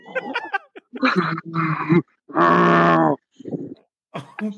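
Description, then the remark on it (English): A man doing his best bear impression makes a series of rough, throaty growls and grunts, including one long, loud sustained growl in the middle, followed by a few shorter bursts. “He's got to do his best bear.”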